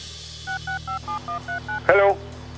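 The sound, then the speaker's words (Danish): A rapid sequence of about eight crisp dual-tone beeps as a telephone number is keyed in from a phone booth near Bindslev, each short and evenly spaced, followed by a brief harsh electronic burst over a low steady hum. “Han skal køre hele butikken fra telefonboksen omkring Bindslev.”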